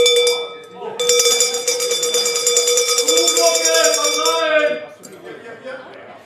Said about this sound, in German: Wir läuten nämlich jetzt die Glocke.